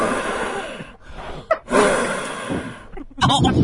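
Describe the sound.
A person imitates heavy breathing into someone's ear right up against the microphone: several loud, rasping, snorting breaths in and out, each a long noisy rush with short pauses between, harsh.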